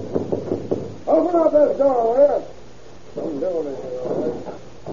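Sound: knocking on a door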